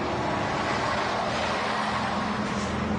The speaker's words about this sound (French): Départ des bus, midi.